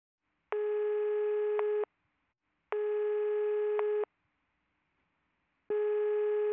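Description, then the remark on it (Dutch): A telephone ringback tone sounds three times before the call is answered, steady buzzy beeps of about a second each separated by short silences, clear with no voices. “Telefoon 2.”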